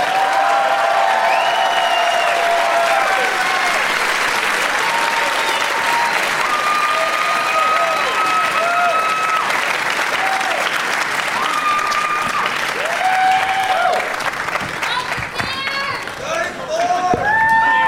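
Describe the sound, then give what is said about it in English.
A crowd in the exhibition hall at Bumbershoot applauds steadily and loudly as a musician and comedians Scott Aukerman, Rory Scovell and Amy Schumer are welcomed out, with whoops and shouted yells rising out of the clapping throughout and a few sharper cheers near the end. “People are already yelling shit at …, or I should say ….”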